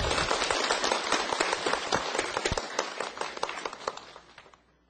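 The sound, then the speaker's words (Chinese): Warm evening applause from an audience welcoming Teacher Cai to lecture on the Di Zi Gui: a dense patter of many hands clapping steadily at moderate loudness, thinning slightly and tapering off toward the end. No voices are heard. “真诚热烈的掌声，欢恭请蔡老师为我们讲授弟子规。”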